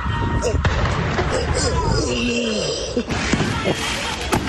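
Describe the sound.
Hundreds of illegal fireworks go off in every direction in a chaotic street scene near Milwaukee's Brady Street entertainment district just after midnight early Sunday morning: scattered sharp bangs and pops burst irregularly over a constant roar of crowd noise and shouting voices, with whistling streaks between blasts.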